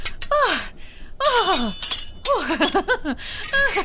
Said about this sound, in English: Oh, Rodrigo, your fencing skills are improving wonderfully. Who? Oh, hello, creeps. Cadavera didn't hear you come in over the sound of our sword fight.